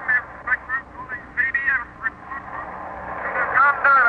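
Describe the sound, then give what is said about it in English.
Crackly, band-limited shortwave radio static from signals coming in from the Western Ocean fills the whole stretch, with faint warbling ghost voices drifting in and out beneath it, growing somewhat louder and busier toward the end. “It may be nothing but those strange patterns of static coming in from the Western Ocean.”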